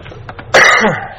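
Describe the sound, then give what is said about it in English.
A single loud, harsh cough bursts out after a brief quiet stretch, with a rough throaty tail as it fades. “I need to cough.”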